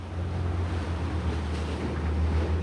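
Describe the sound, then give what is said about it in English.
A pilot boat's engine rumbles steadily amid constant wind and churning water as it pulls alongside the ship Mortarel and the waves toss it up and against the ship's massive hull; the rough sea noise swells slightly without pause, with no voices. “the pilot boat has become an amusement park ride. As the waves toss it up and against the ship's massive hull.”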